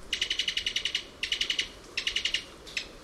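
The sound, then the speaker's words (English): A Cuban tody gives rapid staccato calls from its throat in three quick bursts of sharp, evenly spaced notes, then a final short one, clear against quiet background hiss, with no talking. “This staccato call comes from the throat of a Cuban toady.”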